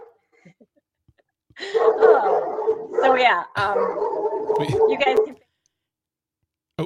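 A dog barks and yelps in a continuous, agitated burst lasting several seconds, loud, with sharp accents between drawn-out whining cries.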